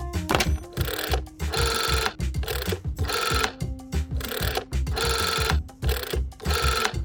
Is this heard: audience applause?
no